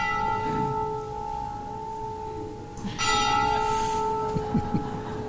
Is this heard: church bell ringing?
yes